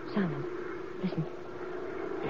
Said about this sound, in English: Hey, that's a plane. Getting closer. Sky's overcast, wait a minute. But... I can see his lights. Hmm? Oh, yeah. He's angling for a landing.